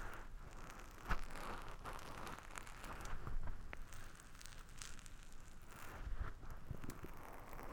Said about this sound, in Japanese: 私、雨音すごく好きなんですけど、こういう状況だとちょっと寒々しく聞こえるかもしれませんね。でも暖かくなっていくと同時に、この音もとても心地よいものになるかなと思うので